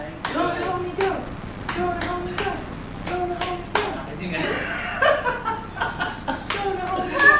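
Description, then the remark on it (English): A steady run of sharp hand claps cheering a person on, roughly even in rhythm, keeps going throughout while voices chatter and laugh over them partway through. “Let's cheer him on.”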